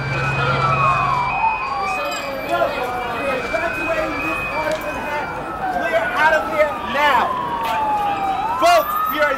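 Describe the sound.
An ambulance siren wails, sweeping up and down repeatedly, about 100 feet ahead and prominent, layered over busy outdoor commotion of people evacuating, with overlapping tones and voices in the background.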